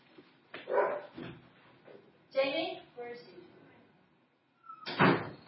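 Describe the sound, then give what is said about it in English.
A dog barks several times in loud, separate bursts, with a brief quiet gap before one last sharp bark near the end. “We may have a dog attack.”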